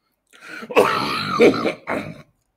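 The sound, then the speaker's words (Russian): A person coughs in a few harsh, raspy bursts over about two seconds, rough and throaty, with no talking around it. “Я прошу прощения за кашель.”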